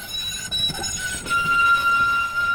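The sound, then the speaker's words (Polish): A new, modernized low-floor tram in Łódź runs along its rails with a steady low rumble and rattle, while thin, high-pitched wheel squeals and a whine hold through most of it. No one speaks. “wagon został zmodernizowany u nas na tramwajowej w Łodzi”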